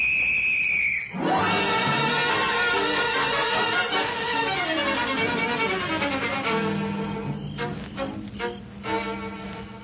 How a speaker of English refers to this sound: Now blow your whistle, Nora, and signal the boys to close in.